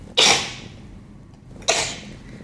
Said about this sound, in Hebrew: את מתעטשת ממש חמוד, אבל קצת עצוב. יש משהו עצוב בהיתור שלך.